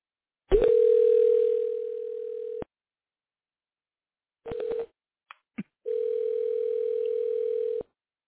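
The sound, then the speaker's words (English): A telephone line rings as a call is transferred to a licensed life insurance agent: two long, steady electronic tones separated by a short blip and a couple of clicks, clear, with no one talking. “Okay, you're going to hear some ringing, maybe a little bit of music, and then we're going to go ahead and get in contact with that licensed agent.”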